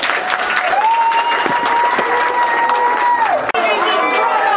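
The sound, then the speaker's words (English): A large crowd roars loudly and continuously, booing Bill Keeler, with a long drawn-out collective boo rising over the noise for a few seconds before breaking into scattered shouts and clapping. “Bill Keeler getting booed by the whole crowd.”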